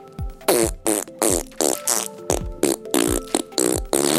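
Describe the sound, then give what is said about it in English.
A rapid string of about nine loud, raspy blasts, each starting with a deep thump and a sliding tone, a person's recorded guess at what a T-Rex fart sounds like. “This is how I think a T-Rex fart sound like.”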